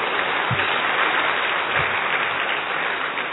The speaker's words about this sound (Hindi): अच्छा मुबारक की ताली बजा लो।